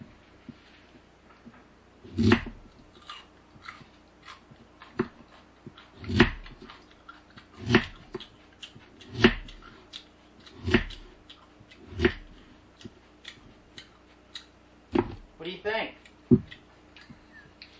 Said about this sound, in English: Can you hear that? Here, eat another one and chew near the mic. And then make sure, you know, you crunch it right in front of the mic. This is what it sounds like. It's crunchy. It sounds like cereal.